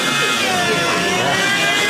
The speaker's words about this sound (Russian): Даже мотор. Слушайте, он звук меняет.